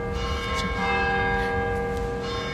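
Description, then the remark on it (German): Church bells ring in a continuous, overlapping peal, their resonant tones hanging in the air as fresh strikes land every fraction of a second, fairly loud and with no voices. “Ding dong. Ding dong, ding dong.”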